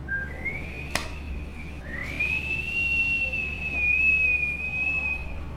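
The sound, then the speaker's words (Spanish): A thin, sustained whistle of wind through the cracks of an old house as a storm approaches, wailing steadily and sliding slightly in pitch, broken by a brief gap and a sharp click near the start, over a low rumbling background. “El aire estaba por las rendijas de la vieja casa. Silbaba de manera escalofriante.”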